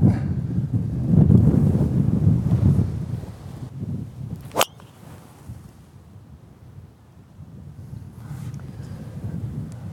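Low, gusty rumble of wind buffeting a microphone outdoors on a golf course by the sea, with wind coming from the right. It is strongest at the start, eases off, then swells again, with a single sharp click partway through and no one talking.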